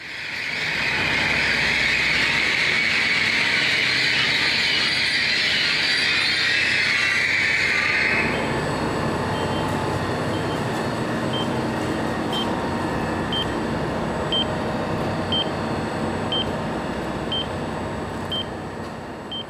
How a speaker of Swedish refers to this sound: Och det var alltså alternativ 2 som var rätt, ett pågatåg av typen X61, där det pipande ljudet berättar var dörrarna finns medan tåget står inne på station. Det var 2010 som de första av den här nya typen av pågatåg kom till Skåne.